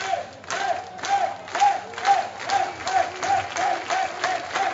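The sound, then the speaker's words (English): A big stadium crowd at a Blue Jays postseason baseball game, almost every fan standing, roars steadily, the noise pulsing in a rhythmic surge about twice a second, like chanting and clapping in unison. “All right, we haven't seen the crowd rise like this all year. Almost every single fan standing.”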